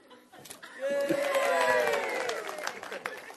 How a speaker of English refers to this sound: See if you can get, if you get a good shot, you get a good clap.